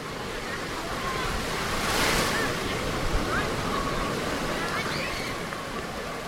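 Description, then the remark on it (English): Ocean waves wash steadily onto a beach at Ocean City, New Jersey, under gusting wind, one surge of surf swelling louder early on, with faint high chirps scattered in the background and no one talking. “this is NewsWorks Tonight, broadcasting from Ocean City, New Jersey, in preparation for the Memorial Day weekend”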